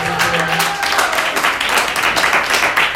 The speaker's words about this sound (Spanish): ¡Oh! ¡Oh! ¡Fuerte el aplauso!